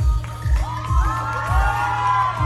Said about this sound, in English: At one point, she swings the cape around her body, kicks it up, and the crowd goes wild.